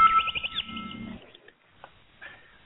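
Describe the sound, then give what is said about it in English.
Small birds chirp and tweet in a busy, bright burst for about a second over a low rumble, then a few faint, scattered chirps follow before it fades out. “I love those little birds.”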